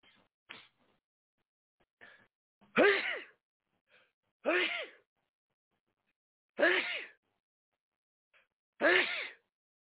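Four loud sneezes, each preceded by a short sharp intake of breath, come at roughly even intervals about two seconds apart with quiet between them.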